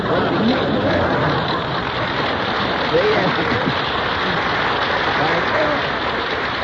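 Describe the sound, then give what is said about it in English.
A studio audience applauds in a steady, dense wash of clapping that holds evenly throughout, with faint voices mixed in underneath. “It says applause in here.”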